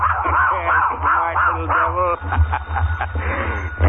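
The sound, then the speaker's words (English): A dog, Trixie, gives a quick series of short, high-pitched yips and barks, about four or five in a row, followed by a rougher, noisier stretch over a steady low hum. “From now on, you got to bark whenever you hear an airplane.”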